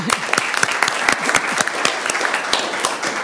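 Sustained clapping from an audience in Jacksonville applauding a woman, a dense steady patter of many hands at moderate loudness with no voices standing out.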